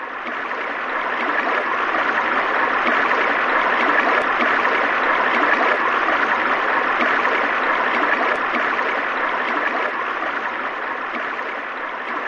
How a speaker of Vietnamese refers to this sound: Chàng vừa rửa kiếm vừa vui mừng nhìn dòng suối nhỏ đang chảy về.